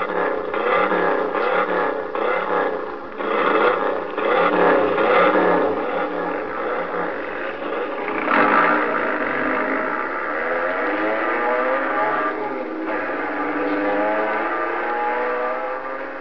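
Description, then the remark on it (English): Loud, continuous roar of several car engines revving, their pitch rising and falling in overlapping sweeps, with a harsh whirring edge and no voices throughout. “But what Bobby is going to do, that race over the bridge with David, both of them can be killed. The way they handle those cars, you don't know.”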